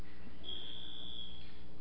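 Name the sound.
buzzer sounding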